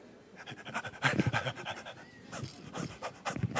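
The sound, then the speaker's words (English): A person imitates a dog panting: quick, rhythmic breathy huffs repeated over several seconds, moderately loud, with no words spoken. “You look like my dog in the backyard.”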